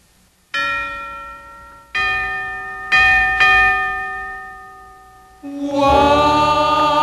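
Wedding bells ring out in a few separate, resonant strikes, each tone lingering and fading, before a fuller cluster of overlapping peals swells near the end. Clear and fairly loud, with no voices.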